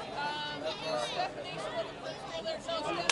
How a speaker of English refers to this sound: All the fans in the stands, a sold-out crowd on opening night, an announced attendance of 2,649. What a crowd.